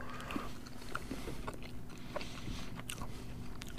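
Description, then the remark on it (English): Someone bites into and chews cranberry sauce flavored candy corn, with a series of soft, irregular crunchy clicks and wet mouth sounds over a steady low hum, no talking. “I've just been reminded why I hate candy corn.”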